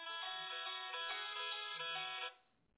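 A phone ringtone plays a bright, continuous electronic melody for a little over two seconds at steady loudness, then cuts off abruptly. No one speaks.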